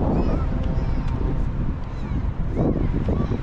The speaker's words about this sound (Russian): Вы знаете, иногда ветер сильный дует. Я стараюсь уж там рукой как могу закрывать для вас.